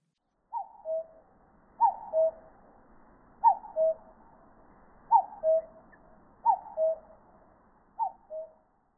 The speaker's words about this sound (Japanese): カッコウです。